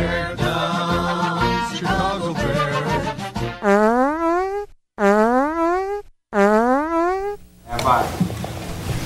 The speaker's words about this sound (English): It's Monday. Time for the fart of the day.